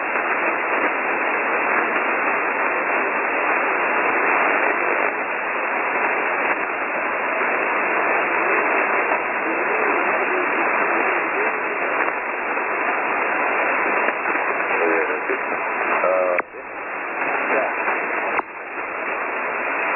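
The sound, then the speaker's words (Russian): Loud, steady radio static interference fills the whole stretch, a dense band-limited hiss that covers the radio stations being called and briefly cuts out twice near the end before resuming. “я не слышу ту станцию, которую вы называете, не всегда слышу, помехи накрывают.”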